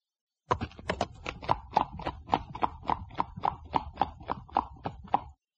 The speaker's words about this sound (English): Look at this horse. Oh, what a fine horse. It's my best friend.